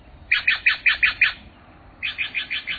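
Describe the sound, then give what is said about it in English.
Birds chirping in a backyard in two quick runs of bright, evenly spaced notes, about six each, separated by a short pause; clear, with no voices. “I definitely feel in some way connected with the wildlife in this yard, particularly the birds.”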